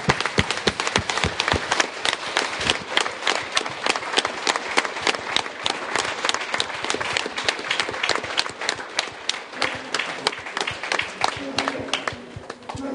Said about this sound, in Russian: Отлично поработали. Аплодисменты, друзья. Давайте поаплодируем друг другу.